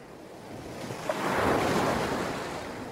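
Ocean waves wash onto a beach in a steady, hissing roar that swells to a peak midway and then slowly eases back, with no voices present.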